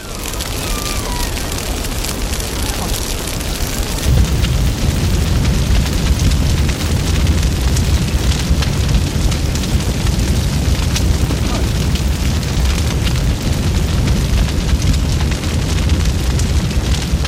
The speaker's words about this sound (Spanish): a continuación escucharemos el sonido más doloroso, que es el de los árboles, el de la vegetación ardiendo. Fijaos que a veces parece que los árboles gritan.